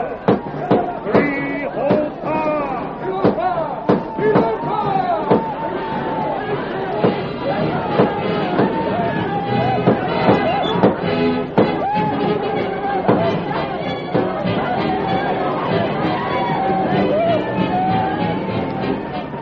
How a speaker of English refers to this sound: The outlaws thundered down upon the village, their guns blazing. The Indians, confused by the sudden uproar, tumbled forth from their tents in bewildered alarm.